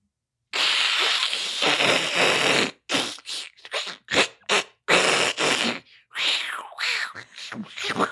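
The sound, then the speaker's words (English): A voice imitates thousands of hissing snakes: a long, loud breathy hiss followed by a run of shorter, sputtering hisses and spits, broad and noisy with no words. “All right, so you look down and you'd already seen one snake, but now you're seeing thousands of snakes. What does that sound like? That's that.”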